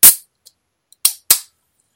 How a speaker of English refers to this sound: Can you hear that effervescent wonderfulness? Effervescent wonderfulness. That's a pure Dr. Pepper right there.